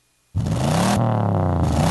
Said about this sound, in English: Hear that? That's your engine telling you something. To never settle.